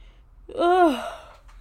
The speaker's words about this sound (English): And I keep yawning.